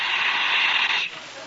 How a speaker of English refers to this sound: are you hissing me? Oh, no, sir, no. We must have a bad connection. It's a terrible connection.